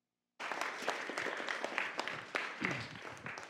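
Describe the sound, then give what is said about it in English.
A round of applause from a crowd as a preacher comes up to preach, many hands clapping in a dense, steady roar that starts abruptly and holds at a fairly loud level throughout, with no voices standing out. “Thanks for the round of applause.”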